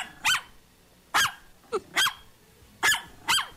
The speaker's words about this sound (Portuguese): O latido do Jolie, o Jolie que é o cachorro da Rocan, vai.